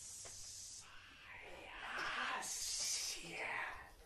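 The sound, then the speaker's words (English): A person mimics a snake's hiss, pushing out a series of drawn-out, breathy hissing sounds that swell and fade over about four seconds, with no other sounds. “Gross, that's what the snake says.”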